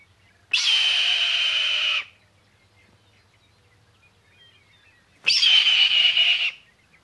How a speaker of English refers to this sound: But the movie people got it all wrong. That hissy screech is not the eagle's screech. It's the call of the red-tailed hawk.